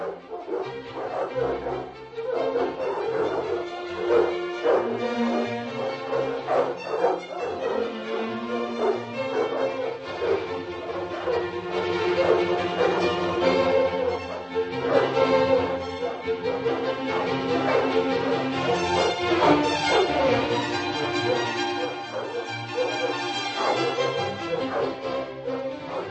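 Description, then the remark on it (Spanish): A large pack of dogs barks, yelps and whines all at once, a dense, continuous chorus of overlapping voices that stays loud throughout, with no people speaking. “La aristócrata trajo como dote al matrimonio una nutrida jauría de 400 perros, en la cual estaban representadas prácticamente todas las razas caninas existentes en el siglo XVIII.”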